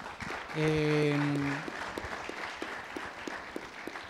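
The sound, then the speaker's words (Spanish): A crowd claps steadily in a dense, crackling burst, with a single sustained voiced cheer rising over it near the start before the applause continues on its own. “Un aplauso, por favor.”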